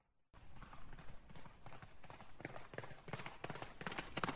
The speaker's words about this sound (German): Ich höre Pferde herantraben. Seid leise, das sind bestimmt Soldaten.